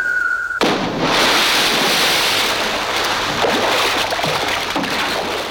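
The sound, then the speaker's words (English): A brief steady tone cuts off as a body leaping from a 14-story tower hits the ocean with a sudden, loud splash, followed by several seconds of roaring, churning surf-like wash. No one speaks. “And plunges immediately into the ocean below.”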